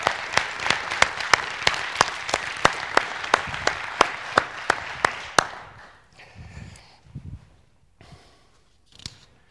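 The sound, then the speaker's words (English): An audience in a morning church service claps hands together as a hand clap to God in a quick, steady unison rhythm for about five seconds, with loud, sharp strikes, then the clapping breaks up into a few scattered claps and faint murmuring. “And so what I want you to do this morning, and this will help wake you up, is I want you to give a hand clap to God.”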